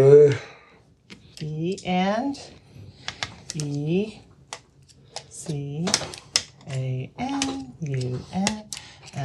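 Sharp, irregular pencil taps clicking through a stencil letter board as a pencil is pushed through each punched-out letter to spell, while the board is held steady. The taps come in quick clusters, with vocal sounds rising and falling between and beneath them.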